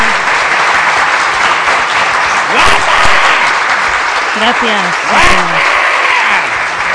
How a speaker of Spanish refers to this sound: El público nada más que se fija en ella. Tenemos más aplausos que los que va a recibir este de Eurovisión, ya os lo digo.